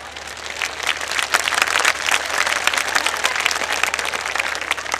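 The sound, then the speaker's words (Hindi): A crowd of devotees at a Shyam Baba religious gathering claps steadily in welcome for about five seconds, a dense wash of many hands with a few sharper individual claps standing out, fairly loud and without speech. “भाई चौधरी साहब ऐसे नहीं है ना, तो न्यू पता पड़िया थारनी ताली बजगी ना, न्यू पता पड़िया कि ये बाबा की नहीं ताली बजी है।”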